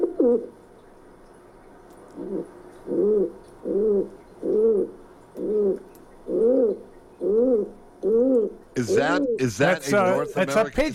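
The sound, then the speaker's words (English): A pigeon coos in a steady series of soft, low, rounded calls repeated about every second, before a burst of brighter, busier bird calls joins in at the end. “Is that a North American pigeon? It's a pigeon.”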